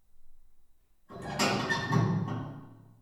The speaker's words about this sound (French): Par exemple, ce bruit de porte ne provient pas de la pièce dans laquelle vous vous trouvez en ce moment même en train d'écouter, mais bien du casque.